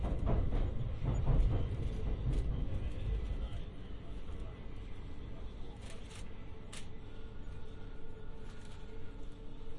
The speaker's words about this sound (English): This train will not stop at the next station.